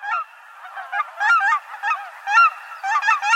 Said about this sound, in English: These cackling geese, diminutive cousins of Canada geese, migrate south from Alaska in October. They flock together for the winter at sites like Ridgefield National Wildlife Refuge on the Washington side of the lower Columbia River.